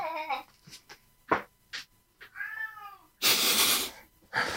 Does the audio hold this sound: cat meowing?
yes